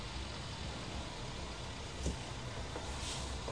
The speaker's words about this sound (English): Car coming. Is there a car coming?